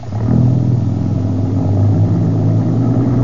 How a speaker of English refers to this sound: Hey, the general's staying. The trucks are pulling on out without him.